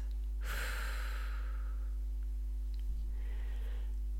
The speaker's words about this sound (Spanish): Una vez más, inhala. Aguanta la energía, aguanta la respiración. Y exhala.